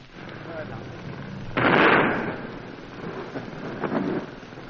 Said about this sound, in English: Well, things are a bit calmer now, and we've got more time to explain just what has been going on and what is going on now. The bombardment is absolutely terrific from the far side.